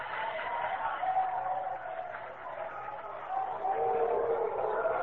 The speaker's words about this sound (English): There's a fastball swung on and missed. He struck him out. This crowd roaring with every pitch, with every out.